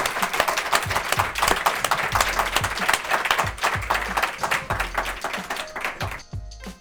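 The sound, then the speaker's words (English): An audience applauds steadily to thank guests at the end of a conversation, a dense wash of many hands clapping at a loud, even level for several seconds before fading out at the end. No one speaks over it. “Let's give them a warm applause and thank you.”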